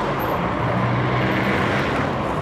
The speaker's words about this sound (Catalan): Aquest pot ben bé ser el so d'una de les artèries principals d'una ciutat catalana en hora punta. Cotxes i cotxes, alguns molt antics i, per tant, molt contaminants.